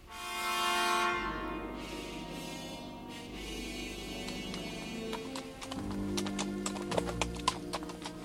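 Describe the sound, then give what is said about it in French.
Horse hooves clip-clop in a steady, sharp rhythm as a horse travels along a path, growing clearer toward the end, over a sustained humming, tonal background that swells loudly at the start. No one speaks. “Le chemin que suivait le cheval d'Angelo frappa de la tête contre un de ces rochers en forme de voile latine et il se mit à l'enlacer en direction d'un village dissimulé dans les pierres comme un nid de guêpes.”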